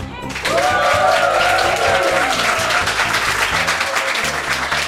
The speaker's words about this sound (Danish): Men det, vi lige skal høre her, det er, om I gider at give os et lille bifald, så vi kan høre, at vi har et live publikum på her i dag.